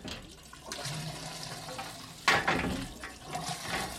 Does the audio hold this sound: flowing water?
yes